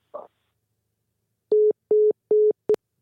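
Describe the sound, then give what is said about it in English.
A phone line cutting off as a caller is lost from the line: a brief rustle, then three steady electronic beeps at an even pace and a shorter fourth one, all at the same pitch. “That's the dreaded beep that we don't want to hear.”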